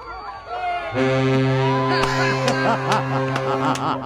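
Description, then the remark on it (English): A freighter on a river near Cleveland, about 60 yards offshore, sounds one long, steady low horn blast in thanks after a beer is thrown to it. The blast starts about a second in and holds loudly to the end, with murmuring voices underneath. “The boat says, thank you.”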